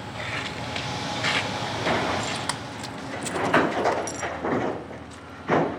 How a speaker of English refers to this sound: Backhoes grab giant chunks of crumbled homes and dump them into white trucks.